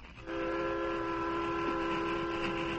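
A train nearing the top of a slope runs steadily, its low rumble overlaid by a long, sustained whistle-like tone that sets in after a brief moment and holds loud and unbroken to the end. No one speaks.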